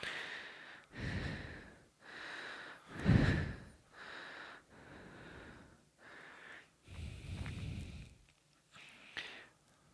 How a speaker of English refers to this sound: Standing up, got you breathing heavy. What you talking about? You going... Am I breathing heavy? Yes, you are. I can hear you all the way over here. I know a little bit. I'm excited. The physical exertion of standing has got you worn out.